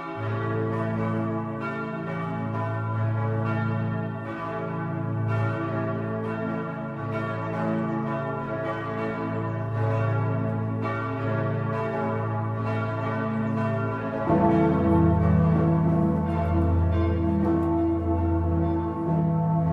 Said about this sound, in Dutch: evocatie gemaakt uit klankopnames, versmolt tot een klokkencompositie van de 6 huidige klokken van de Sint-Pietersbasiliek in Rome. Was u nog niet helemaal wakker, dan zal u het binnenkort wel zijn.